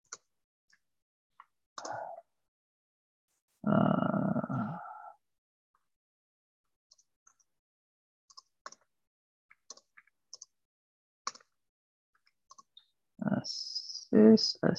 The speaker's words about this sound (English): I'm just typing the comment for you.